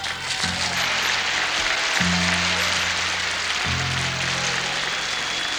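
An audience applauds the band steadily, a dense, unbroken wash of clapping, while the band holds low sustained chords underneath that shift to new notes every second or two.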